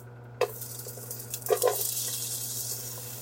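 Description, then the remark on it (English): Onions and ginger sizzle in a pot, a sudden hiss rising as they hit the hot oil, with a few clinks of stirring and a steady crackle that continues. “When it hits the pot, we want to hear that lovely sizzle.”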